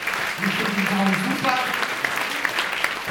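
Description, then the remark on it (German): An audience claps steadily for the technical crew in a dense, crackling wash of applause, with a few voices calling out over it before the clapping tapers slightly near the end. “Und damit könnt ihr auch mal die Technik da hinten auch einen Applaus in Face, meine Damen und Herren.”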